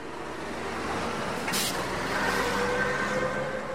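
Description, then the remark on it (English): Heavy trucks loaded with building materials, car parts and household appliances rumble and idle steadily in line at the Kerem Shalom crossing terminal on Israel's border with Gaza, as a single sharp hiss of an air brake bursts out midway, with faint tonal whines from engines and no one speaking. “At the southern end of Israel's border with Gaza, trucks loaded with things like building materials, car parts, and household appliances line up at the Kerem Shalom crossing terminal.”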